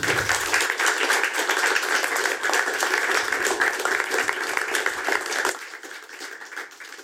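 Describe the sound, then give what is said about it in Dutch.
Sustained audience applause, a dense crackle of many hands clapping at steady loudness for about five seconds before thinning out and fading toward the end, as the audience applauds a guest who is being thanked. “Een groot applaus voor deze mens.”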